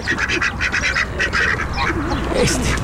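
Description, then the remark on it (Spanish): Ducks quack in a rapid, repeated chorus with hens and other farm birds squawking around them, loud over a busy outdoor background, with a voice briefly mixed in. “Bueno, no solo las gallinas, hay otros animalitos ahí que están protestando”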